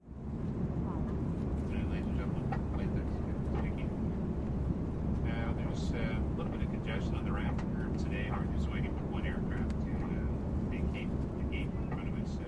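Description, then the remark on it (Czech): A steady, loud low engine drone of an airplane cabin in flight, with indistinct voices murmuring faintly in the background through most of it. “Příběhy jsou tak laděné i do tematického prostředí, jako je doma či v letadle. Právě odtud si nyní můžeme vyslechnout i ukázku.”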